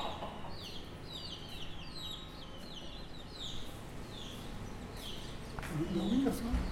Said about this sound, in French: Moi, je suis à l'endroit où il y a des poules. Et moi, je suis à l'endroit où il y a les poules.